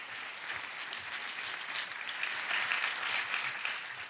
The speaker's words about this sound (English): Can we applaud God's good work among us, right?